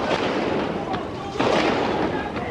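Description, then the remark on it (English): A continuous rattle of gunfire crackles densely and steadily, heard from the roof of the Great Hall of the People and coming from everywhere, with a couple of sharper, louder bursts standing out from the dense volley. “From there, he could hear the continuous rattle of gunfire.”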